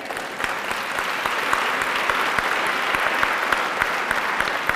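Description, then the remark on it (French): An audience claps steadily and densely in applause for a preached message, many hands overlapping into a sustained, even roar of applause with sharp individual claps popping out, lasting the whole stretch without talking. “Applaudissez cette parole.”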